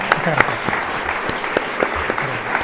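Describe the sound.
Steady audience applause bidding farewell to a guest at the Casa Museo del Hidalgo in Alcázar de San Juan, Ciudad Real, a dense patter of many hands clapping at an even, moderate level throughout, with a few sharper individual claps standing out and some faint voices mixed in.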